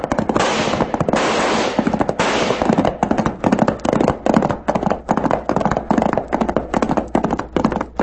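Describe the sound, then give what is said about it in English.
Rapid bursts of gunfire from a gang shooting into the Charlton house crackle nonstop, a dense rattle of overlapping shots at first, then thinning into quick irregular volleys of sharp cracks, loud throughout with no voices. “There's a whole gang down there pumping lead into the Charlton house.”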